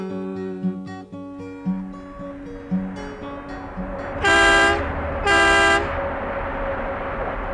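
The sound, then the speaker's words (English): A long-haul Mack truck's 450-horsepower diesel engine rumbles steadily, then its air horn gives two loud, long blasts in quick succession over the ongoing engine drone. “This Mack truck here has 450 horsepower and I just sail along like a great big ship of the prairies.”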